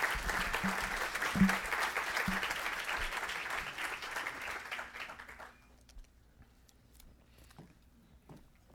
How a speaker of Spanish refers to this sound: Entonces quiero recibir con un fuerte aplauso